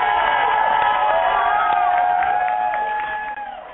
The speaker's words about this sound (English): I got to give you a crazy applause. That's what I'm doing.